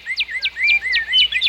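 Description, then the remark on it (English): A bird sings a quick, steady series of about six bright, falling whistled notes, each followed by a softer trill, clear with no voices. “This is how a bird sings.”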